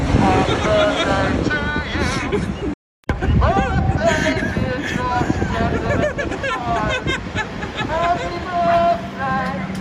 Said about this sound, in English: Has a megaphone that he bought yesterday from Officeworks and is down on the corner in Collingwood bellowing out happy birthday through the through the megaphone.